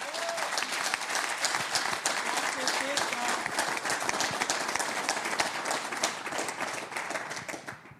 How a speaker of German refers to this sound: Begrüßen wir mit einem kräftigen Applaus Peter Stöger.